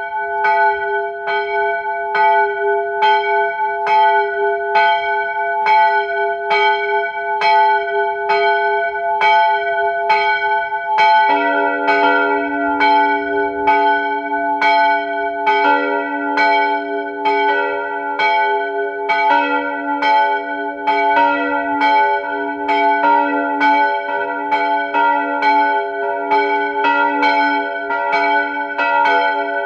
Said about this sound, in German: 12 Uhr. Sie hören die Glocken der evangelischen Pfarrkirche in Unterhaus bei Seeboden in Kärnten.